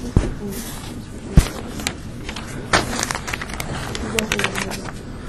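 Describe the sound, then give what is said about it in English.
Crisp rustling and crackling of paper sheets being shuffled and handled, with a couple of sharp taps early on and irregular bursts of crinkling throughout. “It's the wrong piece of paper.”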